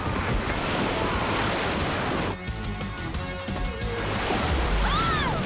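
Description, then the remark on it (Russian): Loud, steady roar of rushing flood water surging, a dense churning wash that barely lets up, with a few faint high squeaks near the end and no voices. “Так, кто не выключил кран? Лестница! Скорее! Быстрее! Бегите на крышу!”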